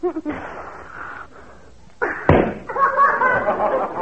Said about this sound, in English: I want a balloon. No. You made me burst this one, and you can't have another.